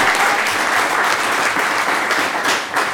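Sustained crowd applause for the coaches, a dense steady wash of many hands clapping at even loudness throughout, with no voices standing out.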